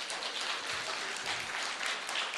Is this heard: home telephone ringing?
no